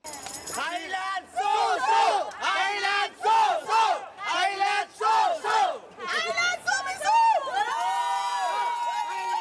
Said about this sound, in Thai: รวมทั้งยกย่องชมเชยกองเชียร์ไทยที่ส่งเสียงเชียร์ดังไม่หยุดตลอด90นาทีถือเป็นสีสันที่โดดเด่นในการแข่งขันฟุตบอลหญิงชิงแชมป์โลกที่แคนาดาในครั้งนี้